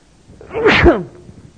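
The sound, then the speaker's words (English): A single loud sneeze bursts out sharply and fades quickly, with no talking around it. “Excuse me, I'm about to sneeze here.”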